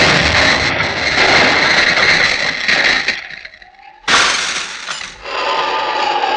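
A mine explosion roars for about three seconds, dies briefly, then a sudden loud crash of the cottage window breaking and shattering bursts in and rattles on before settling under a steady hum.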